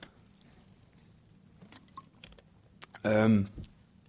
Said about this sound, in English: Sorry, just need to get a drink of water.